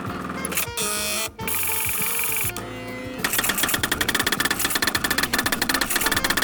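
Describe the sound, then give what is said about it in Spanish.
A printer whirs and hums with steady mechanical tones, then breaks into a fast, regular run of clattering pulses as it feeds and prints, fairly loud, with no voices. “Hoy tenemos a la impresora de la nave.”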